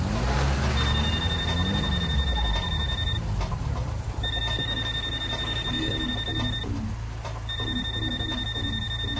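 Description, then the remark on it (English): A cell phone rings with a bright electronic tone in three long, evenly spaced bursts, heard over a steady low rumble like a running engine. “Do we answer? It's probably Orange County wondering where his car is. Yeah, it's a cell phone.”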